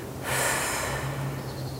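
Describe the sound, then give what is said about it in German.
A single long, deep breath drawn in during a breathing exercise, a steady airy rush that swells quickly and holds for over a second, with no talking. “Auch mal kurz atmen und dann wieder lang atmen, den Bauch legen.”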